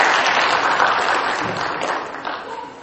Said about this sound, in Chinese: 我们给他这些幼稚的鼓掌好不好？给他们鼓掌。